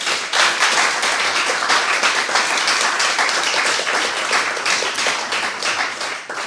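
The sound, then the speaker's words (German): Sustained audience applause on a warm day welcoming a guest, a dense wash of many hands clapping at a steady, loud level for several seconds, with faint crowd noise mixed in and no speech over it. “bitte einen warmen Applaus an diesem warmen Tag.”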